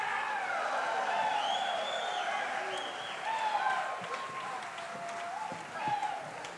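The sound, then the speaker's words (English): An audience applauds steadily for several seconds for a band waiting in the wings to come on stage, a dense, even wash of many hands clapping, with scattered whoops and crowd voices rising through it. “Maybe if you guys applaud for them, they'll know it's their turn.”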